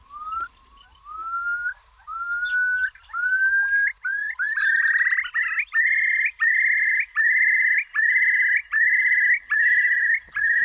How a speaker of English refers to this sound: Let's hear some of the curlew.